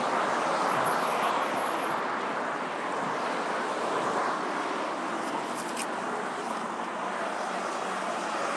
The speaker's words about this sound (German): Ich hoffe, es gibt nicht allzu viele Windgeräusche, weil es doch einiges an Wind hier ist. Bitte verzeiht.